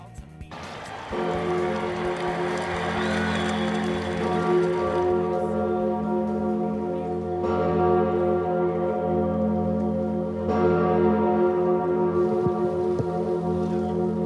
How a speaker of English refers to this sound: The bells at the Cathedral of Notre Dame, which have not rung since the fire, but do here at this opening ceremony. And that is all there is to say about the opening ceremonies, is that the bells at Notre Dame rang for the first time in 5 years